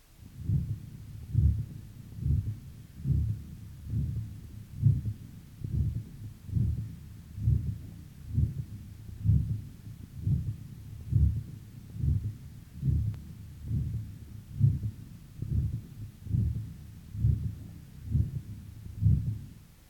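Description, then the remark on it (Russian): A steady, regular heartbeat with low thudding beats and a soft whooshing systolic murmur over the aorta between them, like through a stethoscope, recorded from a patient with atherosclerotic disease of the ascending aorta, continuing throughout without any voices. “На следующей фонограмме представлен другой вариант систолического шума на аорте, зарегистрированного у пациента с атеросклеротическим поражением восходящей части аорты.”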